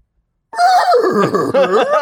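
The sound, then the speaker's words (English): A person imitates a horse's whinny, a loud, wavering vocal neigh lasting about a second and a half, with no other talking. “I assume they make the same noises as horses do, but I'm not sure.”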